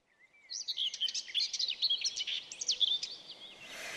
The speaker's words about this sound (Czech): Je časné ráno a ptáčkové si štěbetají, co se jim v noci zdálo. Jako obvykle se vzájemně překřikují, až je z toho štěbetání pěkný rámus.